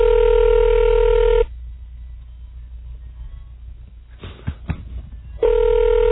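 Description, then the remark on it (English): A telephone line rings with a steady electronic tone as a call is placed, goes quiet for about four seconds with a few faint clicks and taps, then the ringing tone starts again. No one speaks. “Make a quick call.”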